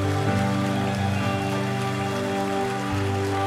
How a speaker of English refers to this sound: Now let's clap our hands to the Lord and lift him up, clapping. Come on. Praise the Lord. Keep praising him. Just keep praising him.